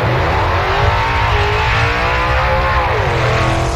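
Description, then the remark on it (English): A loud car engine revs steadily, its pitch rising and falling in smooth sweeps over a few seconds, continuous with no voices. “Have you listened to your car lately?”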